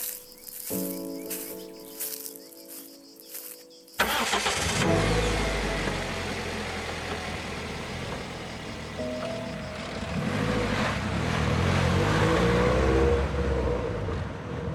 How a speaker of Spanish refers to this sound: En el viaje de vuelta aprecio el coche que funciona correctamente